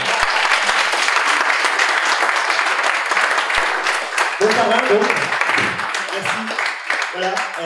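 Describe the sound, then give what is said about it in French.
Loud, sustained applause from a large audience fills the whole stretch, a dense wash of many hands clapping, with a few voices talking over it toward the end. “je pense qu'on peut l'applaudir très fort.”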